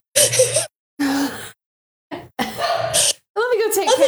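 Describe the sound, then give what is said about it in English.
A female dog whines and groans in several short, breathy bursts separated by brief pauses, ending in a rising, wavering whine. “Doesn't your dog know that we're also putting this on the podcast?”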